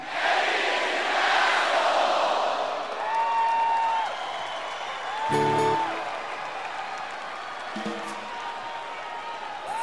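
A large crowd, on a count of three, yells an insulting phrase together in one loud, roaring burst over the first few seconds, then the noise settles into a murmuring crowd with scattered individual voices.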